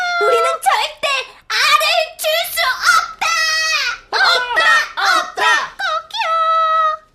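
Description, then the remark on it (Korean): A human voice imitates hens, with a rapid run of loud, high-pitched clucks and squawks in short choppy bursts, ending on a drawn-out squawk. No words are spoken. “젊은 암탉 세 마리의 주도 아래 암탉들은 나폴레옹의 요구를 물리치기 위해 단호한 행동을 취했다.”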